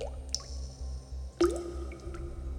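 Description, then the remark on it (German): Two distinct drops of rainwater drip into a bunker cell, each a sharp plink with a bright ringing tail, over a low steady rumble; no voices. “Regenwasser tropft in sein Verlies.”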